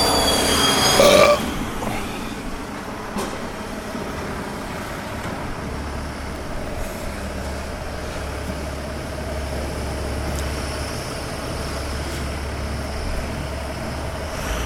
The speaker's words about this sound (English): Garbage truck, in case you're wondering.